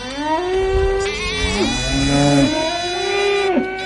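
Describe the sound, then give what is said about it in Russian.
Several cows moo at once, long drawn-out lowing calls with sliding pitch that overlap one another, loud, with no talking. “Потом мальчики услышали мычание коров, и Кришна стал звать их по именам.”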